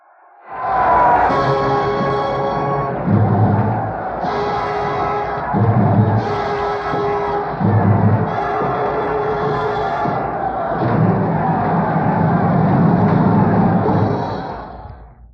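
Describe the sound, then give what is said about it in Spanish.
The crowd of Troy roars at seeing Hector fallen dead. A loud, unbroken mass of voices lasts about fifteen seconds, swelling in repeated surges, with drawn-out cries rising above the din. “Escuchad cómo Troya ruge al verlo caído de muerte.”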